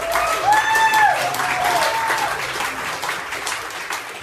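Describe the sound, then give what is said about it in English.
A crowd applauds steadily throughout, dense clapping filling the whole stretch, with a short rising-and-falling whistle cutting through near the start. “I don't know which is more unnerving, the fact that that woman says that or the fact that you've got all those people who are applauding her for saying that.”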